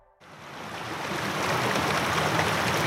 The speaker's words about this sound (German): Wir sind auf dem Philosophenweg unterwegs. Ein Bach plätschert am Wegrand.